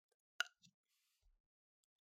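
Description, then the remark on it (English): A small, quiet burp caused by drinking seltzer water: one brief popping gulp followed by a couple of fainter, low soft sounds, with no talking around it. “And I just want to say that little noise before, that was the burp.”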